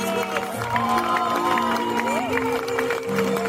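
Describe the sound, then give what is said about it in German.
A crowd in St. Georgen applauds steadily for a few seconds, a dense crackle of clapping mixed with cheering and a sustained tonal hum underneath, staying loud throughout. “St. Georgen, ich bitte mal einen Applaus”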